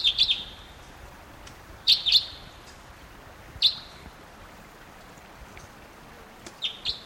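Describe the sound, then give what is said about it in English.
Sharp, high chip notes of a red crossbill, type 2 calls, from a flyover at 9:08 a.m. above a stream. It sounded like one bird, calling in short clusters of one to three every second or two over the steady rushing hiss of the stream. “Here comes the type 2.”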